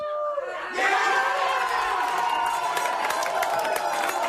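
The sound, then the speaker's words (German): A large crowd at a public viewing in Kiel, Germany, in rainy weather suddenly erupts into loud, sustained cheering and shouting after a brief quieter moment as Angelique Kerber converts her first match point to win her first Grand Slam title, the roar dense, with scattered whoops and claps. “Zwei Stunden Bangen und Zittern, dann war der Jubel unbeschreiblich.”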